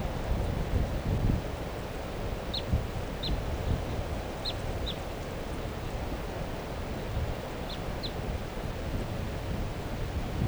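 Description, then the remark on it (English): A juvenile bird gives short, high chirps, about six in loose pairs, fairly faint, over a steady rush of wind and outdoor noise. “Start recording that baby, the juvenile.”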